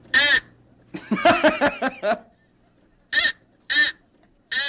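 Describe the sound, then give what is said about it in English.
A special crow-call whistle is blown, giving loud, harsh caws: one opening caw, a rapid flurry of shorter squawks, then three evenly spaced caws. It convincingly imitates a crow. “Boy, it sounds like a crow I knew one time.”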